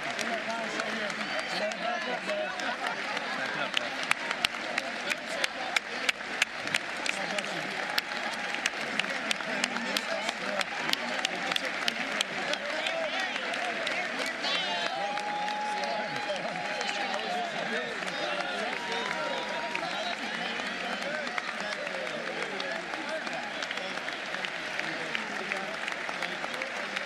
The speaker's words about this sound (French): Oui, traditionnellement, c'est les républicains applaudissent le président. En tout cas, les gens de son parti l'applaudissent. Si c'est démocrate, ben c'est les démocrates qui applaudissent.